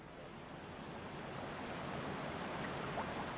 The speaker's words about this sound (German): Die Bundeslade! Seht doch! Die Priester tragen sie hoch auf ihren Schultern! Schon stehen sie im reißenden Wasser! Mitten im Fluss stehen sie! Die Fluten werden sie fortreißen!